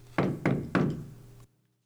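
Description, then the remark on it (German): Three firm knocks on the wooden door of a house, evenly spaced, each with a short resonant decay, followed by silence. “Der Wolf aber ist geradeaus zum Haus der Grossmutter gelaufen und klopft an die Türe.”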